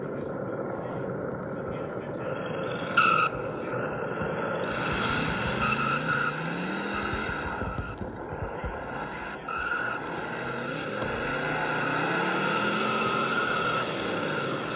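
Race car engines drone steadily as cars roll onto the starting grid, with rising and falling engine pitches passing by over a constant, loud roar.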